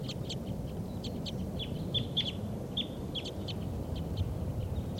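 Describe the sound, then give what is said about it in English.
Wild birds call repeatedly in short, high chirping bursts throughout, over a steady low rumble of wind or outdoor background noise. “Start recording the wild birds.”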